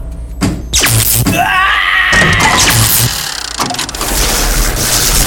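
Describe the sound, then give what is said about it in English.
A man screams in anguish as torture machines, worked by switches and buttons on a remote control device, run on him; his strained voice rises and wavers over loud grinding, clanking machinery and mechanical whirring that runs continuously throughout. “Several minutes go by with Octorus flipping switches and pressing buttons on the remote control device, your father's screams becoming more terrified and more frequent”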